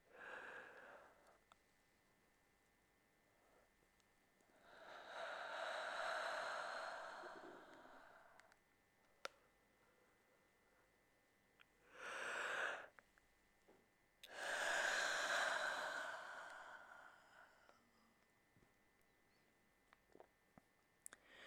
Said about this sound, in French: Puis je déclenche un bâillement.